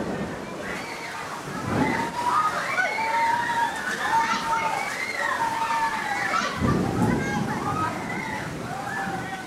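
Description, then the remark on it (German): A steady, heavy downpour of rain rushes and splashes loudly into a dance theater with open side walls, a dense watery roar with voice-like tonal sounds rising and falling over it. “Sturzbäche rauschen vom Himmel, Regen bricht herein.”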